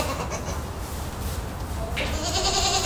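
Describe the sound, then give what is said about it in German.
Goats and sheep bedded on hay and straw bleat inside a new sheep and goat barn at an environmental centre in Friesheimer Busch, Erftstadt, Germany, one strained, wavering call rising clearly near the end over a dense, steady backdrop of rustling and shuffling animal noise. “Das sind die Bewohner im neuen Schaf- und Ziegenstall des NABU im Umweltzentrum Friesheimer Busch in Erftstadt.”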